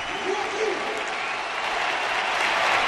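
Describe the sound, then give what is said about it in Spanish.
A football stadium crowd roars and applauds as Betis legend Joaquín, number 17, comes onto the pitch, a steady, dense wash of clapping and cheering that holds loud and constant throughout, with a faint voice rising briefly inside the din. “Atentos a cómo va a rugir esto.”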